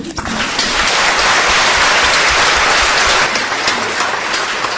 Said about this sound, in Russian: Я думаю, Вильям Шекспир сам сейчас принял ваши аплодисменты, дорогие друзья.